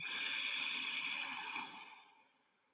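A single long, hissing breath pushed through the throat with the lips closed, as in yoga breathing, like fogging up a mirror. It holds steady for about two seconds before tapering off. No one speaks.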